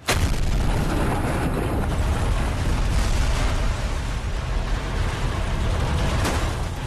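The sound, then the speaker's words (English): A 727 passenger jet, remotely crashed by the Discovery Channel in the desert along the U.S.-Mexico border: a continuous, heavy roar of rumbling, crackling impact noise, dense and loud in the low end, grinding on for several seconds without letting up. “For the first time on television, the Discovery Channel remotely crashed a 727 passenger jet in the desert along the U.S.-Mexico border.”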